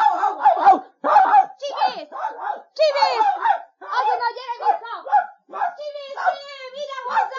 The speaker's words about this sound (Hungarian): Tízes kiskutya, milyen fajta? Magyar terelő puli, hazámban él még néhány példány belőle.